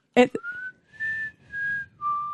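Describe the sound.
A person attempts the Mockingjay whistle from The Hunger Games, whistling a short four-note melody, each note a clear sustained tone with brief gaps, preceded by a quick breathy click and intake of breath.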